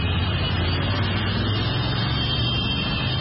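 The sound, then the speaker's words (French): A dense, continuous roar of hundreds of motorcycle taxis parading through a street to salute the national football team as African champions, a steady engine drone with a low rumble and no clear individual passes or voices. “Parade de centaines de mototaxis.”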